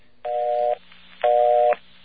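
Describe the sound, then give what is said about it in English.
A mechanical telephone exchange busy signal from a non-electronic phone company office: two loud, slightly rough tone bursts in an even on-off rhythm, each starting and ending with a faint click, with no voices. “That is a mechanical busy signal.”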